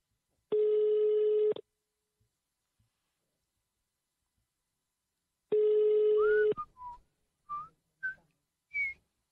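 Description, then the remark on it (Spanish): Two long, steady ringback tones from an outgoing phone call sound several seconds apart with no answer. A person whistles a few short, rising notes of the United States national anthem during and after the second ring. “A esta hora es difícil que la gente conteste el teléfono porque dice estoy muy despierto.”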